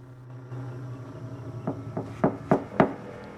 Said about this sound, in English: Then he knocks on the glass.